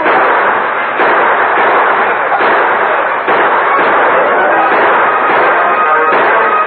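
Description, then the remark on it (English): A loud, sustained exchange of gunfire between a sheriff with his deputies and mounted outlaws, rifle and pistol shots overlapping in a dense, rapid barrage that barely lets up, with a few sharper cracks standing out from the continuous roar. “And the sheriff and his deputies returned the fire.”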